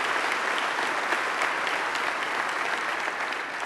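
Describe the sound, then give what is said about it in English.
A crowd at a church service applauds steadily to affirm 48 people who got baptized, a dense wash of many hands clapping at an even loudness throughout, with no pauses and no voices on top. “In fact, would you help me, just by way of applause, affirm all those 48 people that made that decision and getting baptized?”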